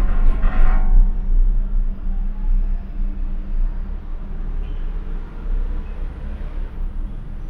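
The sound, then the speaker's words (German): A steady low rumble and mechanical hum of a moving cable car (teleferico) cabin floating over a city, with a brief brighter whoosh at the start and road traffic below. “Ganz anders ist das Gefühl der Fortbewegung, wenn man in die Seilbahn steigt.”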